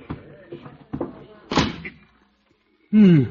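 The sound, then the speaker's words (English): A few bumps and shuffles build to a supply closet door shutting with a solid thud, followed by a brief silence before a voice starts up. “Here's the door. Oh, for supply closet. Well, I'll have to squeeze in.”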